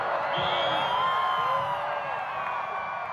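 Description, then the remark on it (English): A large stadium crowd at Saluki Stadium cheers and whoops continuously as the moon slips in front of the sun during a total eclipse, a dense wall of many voices with scattered rising shouts, loud and sustained throughout. “Today, the crowds cheer as the moon slips in front of the sun in full view.”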